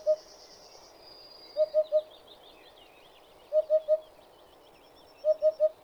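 A Eurasian hoopoe sings its soft, hollow 'oop-oop-oop' in evenly spaced groups of three, repeated several times, with faint chattering of other birds high in the background.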